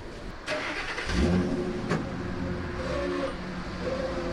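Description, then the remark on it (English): A heavy dump truck engine, used to take recycled paper to a trailer behind Claremont's middle school, rumbles steadily, with a low throbbing drone and a brief surge around the first second as it revs, plus a short clank midway. No one speaks. “and these are emptied into a dump truck, which takes the paper to a huge trailer behind Claremont's middle school.”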